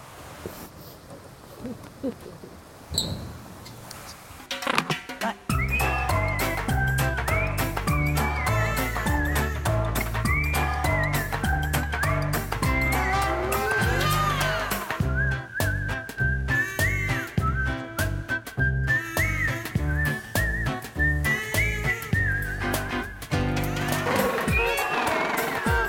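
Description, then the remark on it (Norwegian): A loud colony of jackass penguins at an aquarium in Norway braying together, with overlapping donkey-like honks and wheezy, whistling calls pulsing rhythmically for about twenty seconds after a quieter start. “Ja, det var den flotte lyden de lager, med hvor de får ordet esipingvinene fra.”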